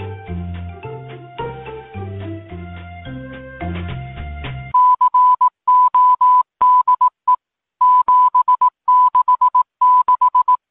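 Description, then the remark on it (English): A short stretch of mellow melodic music from a video game clip cuts off into a steady, high-pitched Morse code tone keying on and off in long and short beeps, translating to the code 7667, loud, with no voices. “a clip of the audio from the video that's like the Tranquility Lane and then part of Tranquility Lane into the Morse code”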